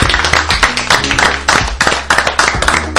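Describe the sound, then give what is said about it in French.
A crowd claps steadily for about three seconds, dense overlapping handclaps forming continuous applause, fairly loud, with no talking over it. “On peut les applaudir. Bravo, bravo.”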